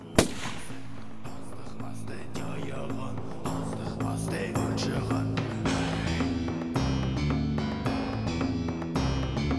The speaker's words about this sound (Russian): Схватил ружье и выстрелил в чайку.